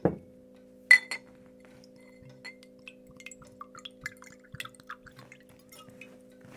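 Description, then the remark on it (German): Water is poured into a glass: a couple of sharp glassy clinks, then a soft scatter of small trickling and dripping sounds over a faint steady room hum, with no talking. “Ich bevorzuge Wasser.”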